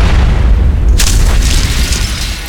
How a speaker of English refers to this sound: The blight drone exploded in a fountain of acidic pus, showering Bardas in a concentrated burst, covering his golden armor in a spray of the nauseating yellow fluid.